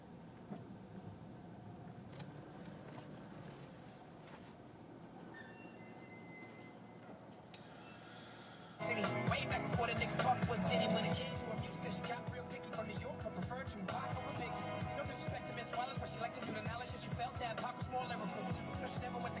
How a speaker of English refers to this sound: All right, let's try driving a car. It's been a little while.